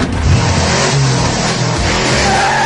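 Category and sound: vehicle, car engine revving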